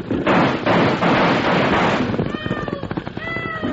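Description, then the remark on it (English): Two riders chasing a runaway wagon on a trail fire a burst of gunshots that crack out in quick, uneven succession, with high whining ricochets gliding over them, after a couple of seconds of loud, rushing, rumbling noise. No one speaks. “Again, they're shooting it up.”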